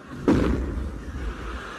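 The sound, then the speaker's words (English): A single sudden cannon blast as a cannon shell is fired, with a sharp crack, followed by a deep rumbling boom that slowly fades away. No voices accompany it. “And now we come to lot three, one cannon shell. 2 shillings. Will you take it, sir, or do you want it sent? Sent. Fire!”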